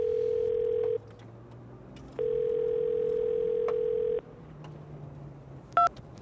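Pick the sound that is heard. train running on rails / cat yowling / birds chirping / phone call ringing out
phone call ringing out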